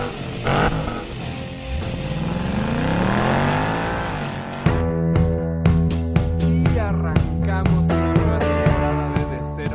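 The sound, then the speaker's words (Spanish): A car engine turns over and revs up loudly, its pitch climbing and falling in a long sweep, before upbeat music with steady beats takes over for the rest. “abróchense los cinturones, prepárense a encender motores, giren la llave y arrancamos.”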